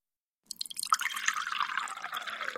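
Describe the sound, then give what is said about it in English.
Tea pours steadily into a cup at a breakfast table after a short silence, a continuous splashing trickle with a shifting pitch as the cup fills, running to the end with no voices. “Downstairs, at the breakfast table, Andrew's mum, Gillian, was pouring the tea.”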